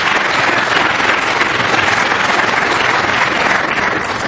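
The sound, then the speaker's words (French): An audience applauds steadily after presentations, a dense, even wash of many hands clapping at once. It stays loud throughout, with no voices breaking through. “Je crois qu'ils méritent une autre belle main d'applaudissement.”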